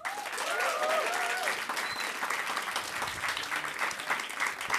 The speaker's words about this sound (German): Also, noch einmal euer Applaus für Currywurst.